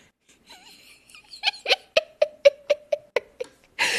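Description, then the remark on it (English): A cat vocalizes: a few soft wavering cries, then a quick rhythmic run of about eight short, pitched chirping calls, ending in a burst of broad rustling noise. “Oh God, now my cat wants to watch it with me.”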